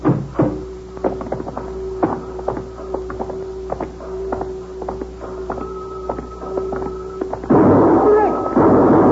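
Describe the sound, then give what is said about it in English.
A sharp gunshot bursts out near the end, loud and ringing, after a stretch of steady mechanical hum punctuated by repeated light clicks and knocks, at a timekeeper's shack on an airbase construction job. “But why did anybody shoot him anyway?”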